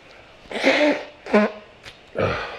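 Someone with a runny nose blows it in three rough, honking bursts: a long first blow, a shorter second, and a final one after a brief pause, with no talking.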